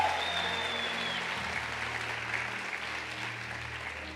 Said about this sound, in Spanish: Dele un aplauso al Señor esta mañana.